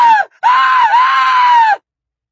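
A woman shrieks in pain, loud: a short piercing cry, a brief break, then a long, sustained high-pitched scream that cuts off abruptly, with no speech.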